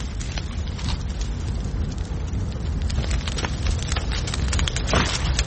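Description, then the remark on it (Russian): A campfire crackles outdoors in nature, with steady, dense pops and snaps over a continuous low rushing hiss. Nobody speaks. “Скажи круто, да? Костер, природа.”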